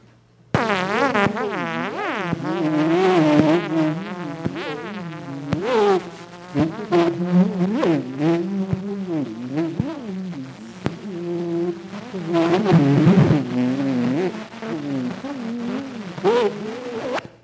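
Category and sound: sound effect, tuning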